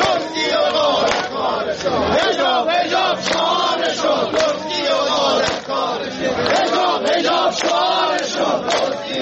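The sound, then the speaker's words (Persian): Social security retirees in Iraq chant a slogan in unison at a demonstration, many voices rising and falling in a steady rhythmic cadence, loud and continuous throughout. “بازنشستگان تأمین اجتماعی عراق در تظاهراتشان این شعار را سر می دادند.”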